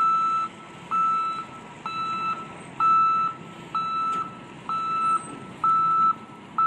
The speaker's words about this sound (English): You know that sound that's supposed to provide safety now every time a truck backs up?